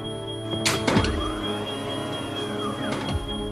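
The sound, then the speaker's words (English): A smoke alarm sounds a steady, shrill high-pitched tone throughout, while a couple of heavy thuds and clattering knocks break in around the first and third seconds. “On hearing a smoke alarm, a mother would look towards her child.”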